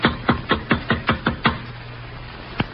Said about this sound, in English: There's some light showing around this bulkhead door. Knock. Here goes.